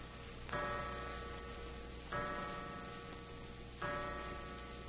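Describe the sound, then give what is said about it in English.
A clock in Banker Laird's private office at a bank chimes the hour with three evenly spaced, resonant strikes, each ringing out and slowly fading over a steady low background hum, with no voices. “Suddenly, a clock chimed the hour, an hour that now seemed foreboding, sinister.”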